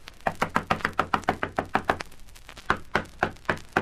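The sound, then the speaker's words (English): Loud, rapid knocking by a police party on the door of Napoleon Morgan's house in the Kingston slums: about a dozen hard, evenly spaced raps, a brief pause, then another burst of half a dozen more, with no voices. “Nobody's very keen on answering the door.”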